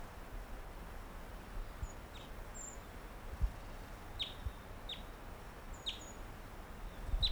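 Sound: wild bird chirping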